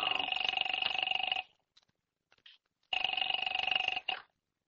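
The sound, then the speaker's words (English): A telephone in the hall rings in two long trilling bursts, each about a second and a half, separated by a pause. The bell tone is bright and steady with a rapid rattling pulse, fairly loud. “Where's the phone? In the hall.”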